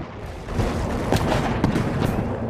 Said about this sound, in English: But they've also got to protect those horses from Turkish long-range artillery. Archive film of explosions on the battlefield at night.